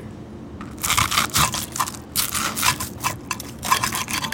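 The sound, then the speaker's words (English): A knife crunches through a crispy rice-flour banh xeo crepe in a series of sharp, crackling bursts, fairly loud, with a brief spoken word at the start. “So when you cut into it, you hear the crunch.”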